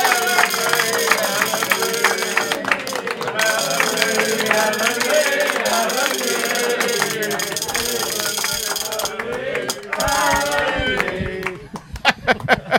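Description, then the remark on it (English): A capacity crowd applauds and cheers to welcome a programme's special guest, a dense, steady wash of many hands clapping mixed with raised voices, holding strong for about eleven seconds before breaking into scattered claps. “Capacity Crowd, big welcome”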